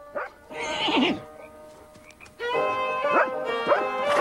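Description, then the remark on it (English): A shaggy, light-coated, retriever-like dog, wagging its tail, barks and yips at night on a dark plain as it stops horses in their tracks, in a short burst, then in a longer excited stretch, fairly loud, with whiny, high-pitched tones mixed in and no one talking. “A shaggy, light-coated, retriever-like dog, wagging its tail, stops the horses in their tracks.”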